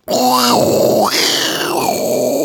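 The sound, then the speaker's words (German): A voice imitates an airplane toilet flush, a loud, continuous whooshing rush with rising and falling pitch sweeps, lasting a couple of seconds without words. “Wenn man im Flugzeug ist, ne, ja, und abspült, ne, das ist dieses...”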